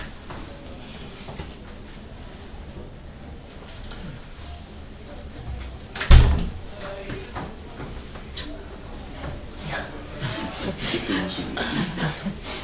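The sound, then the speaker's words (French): A door opens partway through with one solid thump, standing out against steady low background noise and faint murmuring. “La porte s'ouvre.”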